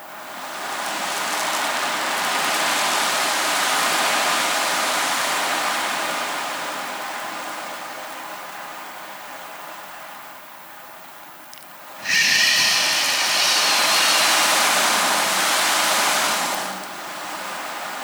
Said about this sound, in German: Im Rauschen. Des Meeres.